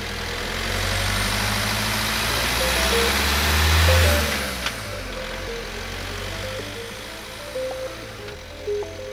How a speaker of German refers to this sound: Justus wartete so lange, bis der Wagen um die nächste Ecke bog.